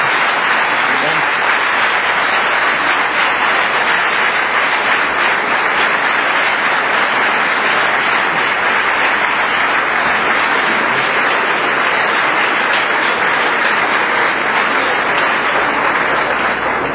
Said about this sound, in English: All right, once again, let's have a round of applause for both James White and Tim Staples.